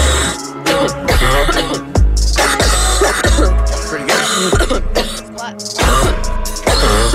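Repeated coughs and throat-clearing sounds are chopped into a loud, bass-heavy pop beat, landing rhythmically over sustained synth chords and thumping low notes throughout.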